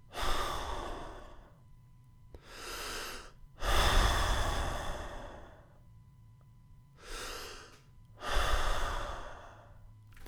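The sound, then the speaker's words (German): Slow, relaxed breathing, with shorter inhales alternating with longer, deeper, airy exhales in an unhurried rhythm, five breaths in all with no talking. “Lange Ausatmer. Vielleicht auch einen langen Einatmer, aber meist längerer und tieferer Ausatmer.”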